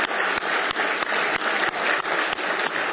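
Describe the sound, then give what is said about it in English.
A church audience claps together in a sustained burst of applause as praise to the Lord, dense and steady, with a faint regular beat running through the crowded sound of many hands. No one speaks. “Give him a big hand clap of praise tonight.”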